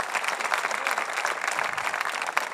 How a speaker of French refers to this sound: Voulez-vous applaudir la main de Dieu, la bénédiction de Dieu?